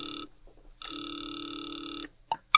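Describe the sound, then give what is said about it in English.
A telephone ring-back tone of a distant phone heard over the line from a phone booth in an all-night drugstore: two steady electronic buzzing tones with a pause between, followed by a couple of short clicks as the call connects. “Now he waits, the ringing of a distant phone in his ears.”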